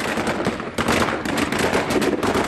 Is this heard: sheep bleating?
no